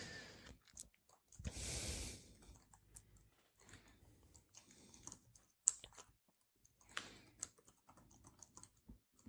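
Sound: computer mouse clicking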